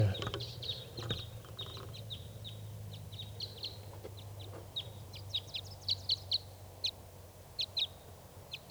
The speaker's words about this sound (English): There's at least 4 or 5 birds here. A large flock. So recording, that flock took off. There were about 6 or 8 birds in the flock.